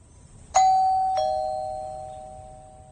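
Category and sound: household object, doorbell ringing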